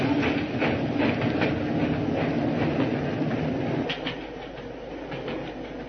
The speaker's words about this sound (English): Stop! Stop the train! It's Moriarty himself. The tall man? He'll never do it. Stop the train, I say!